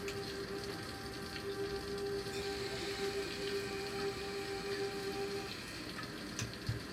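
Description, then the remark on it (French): Gentle rain falls in a soft, continuous patter, with a faint steady electrical hum underneath that cuts out shortly before the end. “Et tu vois la pluie tomber doucement.”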